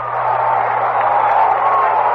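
A baseball stadium crowd roars in reaction to a long drive that curved just foul near the wall, a loud, steady wash of overlapping voices for about two seconds, with no distinct peaks and a faint low hum underneath.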